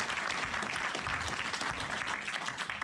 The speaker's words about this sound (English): And a special round of applause